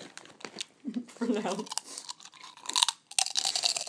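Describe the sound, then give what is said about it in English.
Loud crunching and chewing of a crisp snack, with sharp irregular bursts of crackle and a brief low mumble partway through. “With a proper crunchy noise.”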